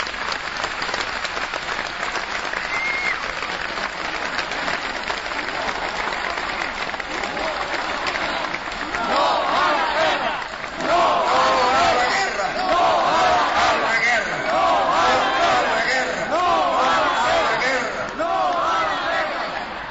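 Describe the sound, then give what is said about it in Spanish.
A large protest crowd chants the anti-war slogan "No a la guerra" ("No to war"), a dense roar of many voices that swells louder about halfway through, with rhythmic shouted phrases rising over the steady crowd noise. “Un nuevo grito de no pasarán, con las palabras no a la guerra, recorre el mundo.”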